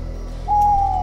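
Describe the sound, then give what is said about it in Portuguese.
A single drawn-out, hoot-like owl call glides in partway through, holding one steady mid-pitched tone over a low, pulsing music bed. No one speaks. “A coruja.”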